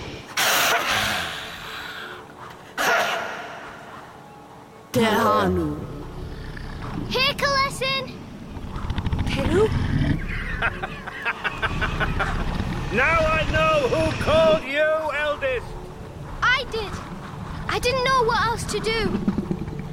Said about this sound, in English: After, there's just the wind blowing from the sea and one spinning yellow eye looking at us, sidelong.